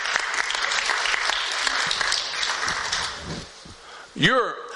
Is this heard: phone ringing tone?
no